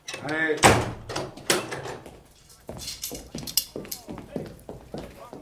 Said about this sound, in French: Gendarme, fermez la porte.